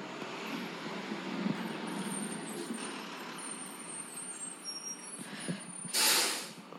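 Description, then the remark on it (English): A large Sparklets bottled water delivery truck rumbles steadily outside, its engine droning for several seconds before a sharp, loud hiss of air brakes bursts out near the end. “That's the Sparklets truck.”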